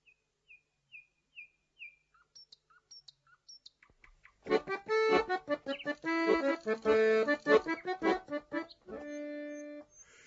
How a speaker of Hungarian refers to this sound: Már reggelt fúj a madársereg